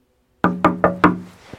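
Four firm knocks on a door in an even, steady rhythm, close and fairly loud, each ringing briefly with a wooden resonance, followed by a faint tap and silence.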